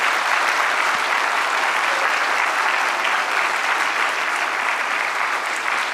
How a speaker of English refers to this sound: All right, can we give a big round of applause to our actors and our kids?